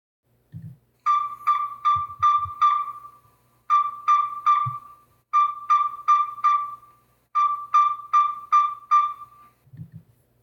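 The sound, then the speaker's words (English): A yellow-rumped tinkerbird calls in steady bursts of four or five hollow, mid-pitched notes, each burst evenly spaced, with a few soft low thumps in the background. “That is essentially the sound of the yellow-rumped tinker bird.”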